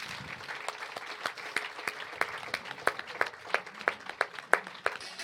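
Audience applause from a small crowd for someone's courage, with crisp individual claps overlapping in an uneven, steady patter for several seconds and no voices over it.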